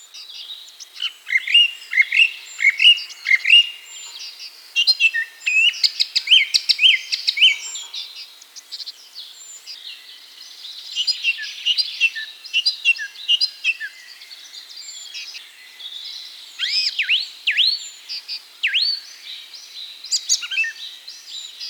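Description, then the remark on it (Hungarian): A songbird sings a long, varied song of rapid chirps, trills and whistled phrases, weaving in imitations of nuthatch and nightingale calls and ending with a scale-like run of notes, clear in bursts, with no voices. “Egy másik egyed ügyesen beleszövi énekébe a csúszka és fülemüle utánzatokat, majd a végét skálázással fejezi be.”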